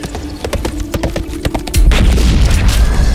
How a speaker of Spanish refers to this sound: Mi pistola pide permiso para terminar con este imbécil. Disparo.